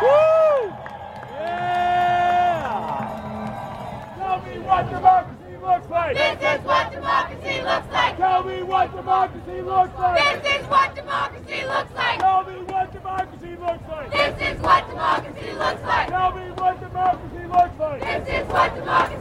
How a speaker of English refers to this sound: Here comes another round of big mass applause from the crowd.